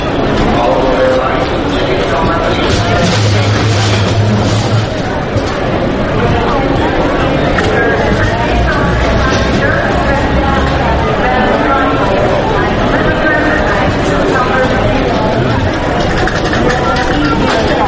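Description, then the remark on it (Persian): Airport terminal ambience: a steady, loud wash of overlapping crowd chatter and footsteps, with a low engine-like rumble rising now and then beneath it as cars pass and an airplane takes off. “همینجوری نشستم منتظرم که یه هواپیمای چیزی بلند شه بشه اینجا، صدای ترمینال هواپیماییه. ماشین رد رد میشه، ترمینال هواپیما چیه؟”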